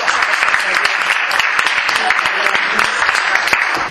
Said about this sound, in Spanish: Entonces vamos a darle un gran aplauso y agradecerle.